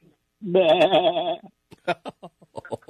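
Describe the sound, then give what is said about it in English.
A person does a loud, wavering imitation of a sheep's bleat lasting about a second, followed by a few short bursts of talk. “He's a sheep. Yeah, I'm a sheep.”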